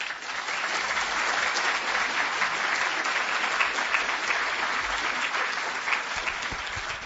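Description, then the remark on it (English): Steady applause from an audience welcoming speaker Dean Brian Atwood on an evening, a dense wash of many hands clapping at an even, sustained level for several seconds without any voices rising above it. “Will you please join me tonight in welcoming Dean Brian Atwood.”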